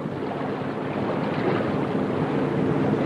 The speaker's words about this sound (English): Now Ryder's sleek yacht motors through a channel toward the ocean.